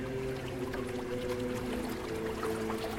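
River water flows steadily and continuously beneath a small bridge at an abbey, a dense, even rush with a faint low hum underneath and no pauses or changes in loudness.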